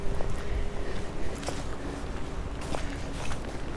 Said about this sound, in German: Der pfeift richtig. Ja, der Wind pfeift im Turm.